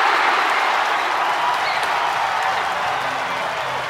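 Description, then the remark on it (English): A large stadium crowd at a cricket match cheers and applauds after a batted ball flies into the stands for six runs, a dense, continuous roar of clapping and voices, loud and steady for the whole stretch with no single voice standing out. “The crowd goes wild.”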